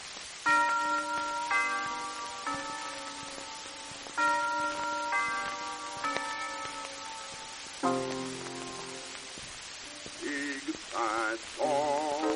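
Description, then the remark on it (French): Carillon bells ring out an old tune, a slow, stately melody, each struck note lingering and overlapping the next, ending in a few quicker, wavering tones. No voices are heard. “un vieil air de carillon”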